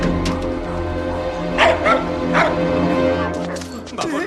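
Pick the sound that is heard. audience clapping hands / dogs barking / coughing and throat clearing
dogs barking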